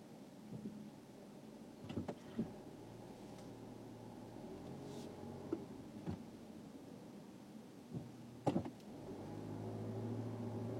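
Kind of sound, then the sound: vehicle, car engine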